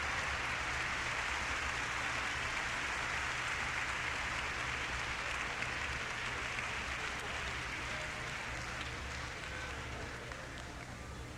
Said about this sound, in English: And here she is for a solo bow, Victoria Postnikova. The members of the Chicago Symphony, as well as this orchestra hall audience, applauding her very vigorously.